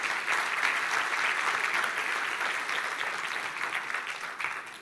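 A crowd claps steadily and densely for several seconds for the men who came to a church work day, a loud, crackling wash of applause that holds fairly even before tapering slightly toward the end.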